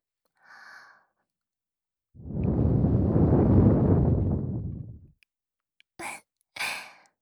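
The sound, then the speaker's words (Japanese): A long, soft breath is blown into the listener's ear in a steady whooshing rush lasting about three seconds, followed by a few short, airy puffs and a faint breathy sound at the start. “お耳をふっとしたら、もっとドキドキしていただけるかなと思いまして。”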